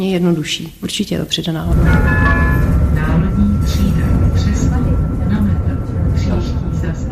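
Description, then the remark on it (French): A tram in Prague rumbles loudly past on its rails, a steady metallic whine riding over the low roar, after a brief stretch of someone talking at the start. “Le tramway et la fiabilité des transports en commun en général sont une des qualités de Prague”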